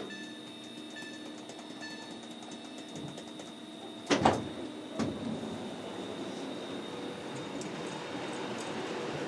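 Steady rumble and hum inside a moving Virgin Trains carriage, broken by two sharp bursts close together as sliding doors clunk and thud, then the carriage drone carries on. No one speaks.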